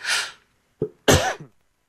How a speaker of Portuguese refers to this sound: A tosse às vezes atende a estas coisas, não é? Enfim, já recuperamos a tosse? Por aí a tosse não, espero que ela se afaste.